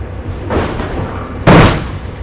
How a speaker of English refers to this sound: We actually have some sound of some of these cars actually getting dumped into the ocean. Here's what it sounds like.